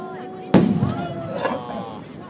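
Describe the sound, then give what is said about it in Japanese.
A single loud firework burst from a fireworks display booms out suddenly, its low rumble trailing off over a second or two, with crowd murmur and voices in the background. “花火でどっから見ても形一緒なんだよね。”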